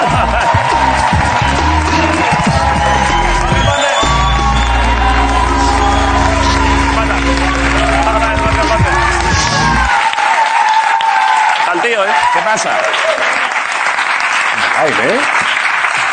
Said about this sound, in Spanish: Vale, pues sin más, un aplauso para Jorge Ponte en la resistencia.